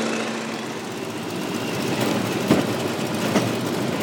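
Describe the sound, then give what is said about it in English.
The engine of a bright blue and yellow 1943 Boeing Stearman open-cockpit biplane, a World War II Navy trainer, drones steadily and loudly in flight over the hills of Fredericksburg. It is a dense rumbling roar mixed with rushing wind, broken by two brief thumps near the end. No one speaks. “A vintage 1943 Boeing Stearman, used for training Navy pilots during World War II.”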